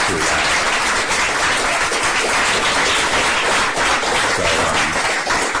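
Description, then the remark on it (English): A meeting audience applauds steadily for several seconds, a dense, even wash of many hands clapping at once, loud and sustained with no pauses and no voices. “No need for applause, because we'll have a diversity of opinion here, and all of which are worthy.”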